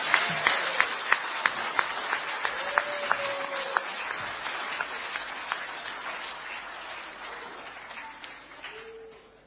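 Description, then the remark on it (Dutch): An audience applauds a performed piece, a dense patter of many hands clapping with a few sharper claps standing out, gradually thinning and fading over about nine seconds. “Zullen we nog één keer een groot applaus geven voor dit stuk?”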